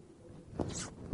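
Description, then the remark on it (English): A single quick, soft zipping swish, like the gesture of zipping a mouth shut, rising briefly and then fading in a quiet setting with no talking. “Zip my mouth shut and wait for an answer.”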